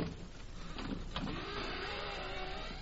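A skeleton key scrapes and rattles in an old lock with a few sharp metallic clicks, then a low creaking groan drags on as the door gives way. The sound is fairly faint, and no one speaks.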